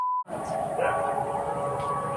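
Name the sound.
siren wailing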